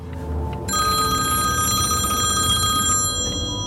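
A mobile phone, the work phone of a retired field sales customer adviser for Handelshof Riesa in Saxony, rings with a steady, bright electronic tone. It starts shortly in and continues to the end, fairly loud over a low rumbling background like a car interior.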